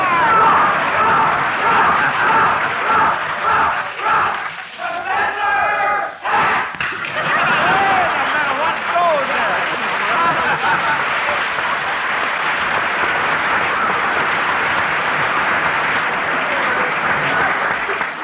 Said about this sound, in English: Like the professors have brought their own cheering section. Well, I'm glad you did, because it sounds very, very good.